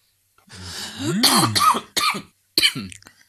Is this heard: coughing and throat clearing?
yes